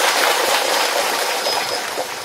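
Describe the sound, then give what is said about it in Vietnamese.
An audience at a Buddhist dharma talk applauds in a dense, steady wash of many overlapping claps, fairly loud throughout and easing off slightly at the very end, with no voices. “Chúng ta cho một tràng pháo tay về điều này.”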